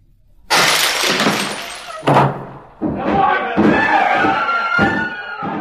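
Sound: door being broken down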